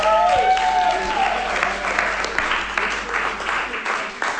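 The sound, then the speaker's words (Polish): Audience applause: a dense, steady patter of many hands clapping, with a brief whistle-like tone at the start, sustained at moderate loudness for a few seconds without talk. “Będziemy sobie spokojnie rozmawiać i może będą brawa.”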